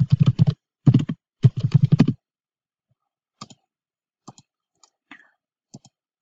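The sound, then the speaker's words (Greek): Rapid computer keyboard typing clatters for about two seconds as a new group name is typed in EndNote, then pauses and gives way to a handful of scattered, quieter single key taps. No one speaks. “Τώρα, για να δημιουργήσουμε δικά μας group, πάμε εδώ πέρα στο My Groups, δεξί κλικ Create Group, δίνουμε το όνομα που θέλουμε.”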